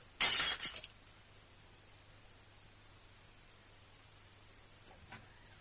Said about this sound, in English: What happened? The roses, I knocked them over. Sounded like a bomb.